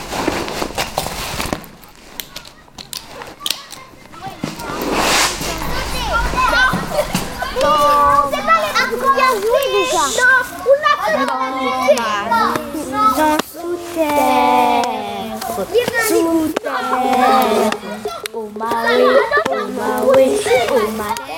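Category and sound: ambience, children playing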